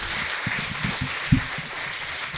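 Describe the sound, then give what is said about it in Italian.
An audience claps steadily, a dense wash of overlapping hand claps with a few louder individual claps standing out, continuing at an even level throughout with no one speaking. “Bene, altri due, un applauso più che meritato.”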